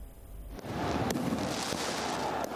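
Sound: fireworks exploding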